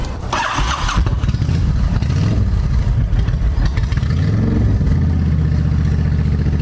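A large 1300cc motorcycle engine cranks and fires with a clattery burst, then settles into a deep, steady, throbbing idle with a couple of brief rises in revs.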